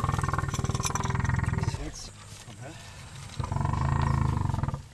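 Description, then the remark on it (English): A sedated female elephant, at least 30 years old, snoring loudly, two long, deep rumbling breaths with a rasping, buzzing texture, separated by a quieter pause in the middle. “The elephant, she's at least 30 years old, is snoring.”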